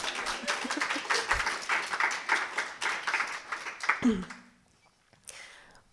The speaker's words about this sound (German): Wollt ihr vielleicht mal klatschen?